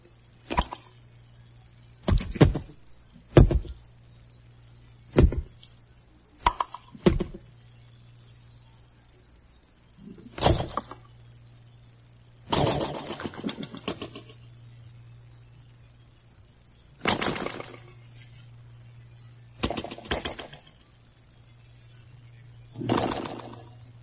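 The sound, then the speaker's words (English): A voice imitates cream of wheat coming to a boil: a series of short, irregular popping, blurping bursts separated by pauses, with a steady low hum underneath. “That is my surrealistic version of the sound of cream of wheat just arriving at the boiling stage, which is a very exciting stage for a young boy to go through, the boiling point.”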